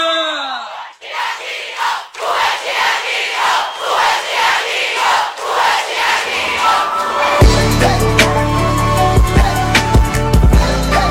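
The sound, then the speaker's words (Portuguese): A large crowd cheers and roars loudly in rhythmic, pulsing surges for several seconds, then a band bursts in with heavy bass and drums over the fading crowd noise. “Eu quero um barulho bem alto, traia veia!”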